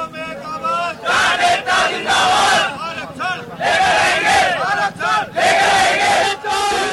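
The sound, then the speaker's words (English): A large crowd of protesters outside Delhi, India, shouts and chants in loud, rising bursts of many voices, with brief dips between waves of yelling, continuous and forceful throughout. “The sounds of protests outside Delhi have left 19 dead and affected the area's highway and water system to millions of people.”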